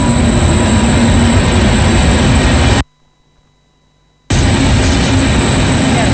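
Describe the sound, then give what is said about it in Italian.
A train to Velletri pulls out with a loud, steady roar and a thin high whine riding over the rumble, interrupted by a sudden second-long silence before the noise resumes. “Hai perso il treno per Velletri.”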